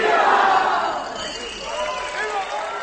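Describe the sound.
A crowd of Mexicans at the Hilton Hotel in Prague, Czech Republic, roars the traditional independence cry of "¡Viva México!" on a Thursday evening, marking the bicentennial of Mexico's independence; the loud collective shout swells at the start and slowly fades, many voices blending into a sustained cheer with scattered individual calls underneath.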